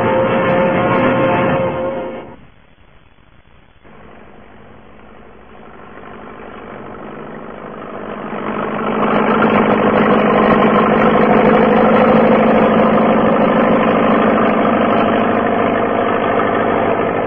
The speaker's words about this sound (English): clearing long, straight furrows through the rich loam soil with a new tractor and disc plough